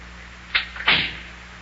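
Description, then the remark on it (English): The front door of a house swings shut to keep the cold air out: a short creak or click followed by a solid thud that fades quickly, heard on its own over a faint steady hum. “I'll just close the front door here so the cold air don't get into Big John's house.”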